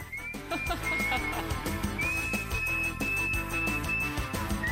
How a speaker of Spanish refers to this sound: Él coge una canción, cogía una canción, porque ya no está entre nosotros. Él cogía una canción, la pasaba por su filtro y salía así, en formato silbido.